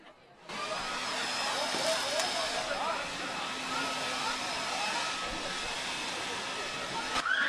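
A leaf blower with a rated maximum of 290 km/h is run during a test, roaring steadily for several seconds, a loud, broad whooshing hiss with a faint motor whine, starting abruptly and holding a constant level throughout.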